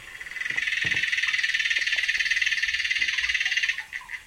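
A fast, continuous buzzing trill from an aquatic bug, pulsing steadily like a cicada for several seconds, then breaking into a few scattered chirps at the end, recorded underwater with hydrophones.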